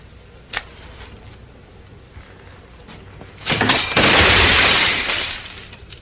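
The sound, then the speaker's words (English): A glass cabinet full of lab equipment crashes and shatters in a loud burst of breaking glass that rings out for a second or two, preceded by a single sharp knock and a few faint clinks, as a person leans against it. “The assistant gets up, slowly walks over, leans against a glass cabinet full of lab stuff.”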